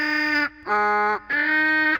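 A loud donkey bray, three harsh, buzzy honks in quick succession with short gaps, rising and falling like a hee-haw, with no voices.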